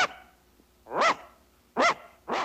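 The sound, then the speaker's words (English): A dog standing next to a barn on rural farmland barks into the night sky several times in a slow, irregular series, each bark loud with a harmonic, slightly rising-falling tone, separated by brief quiet pauses. “Next to a barn, the silhouette of a dog stands barking into the night sky.”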